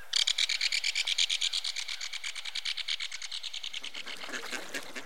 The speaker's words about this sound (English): Several pairs of mallards paddle around the shallows, quacking companionably as they dunk their heads in the water looking for food.